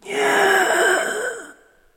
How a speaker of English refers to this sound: The ghost looked at her in fury and wanted to take revenge, but vanished with a deep churchyard gasp, just as the twins came up to him.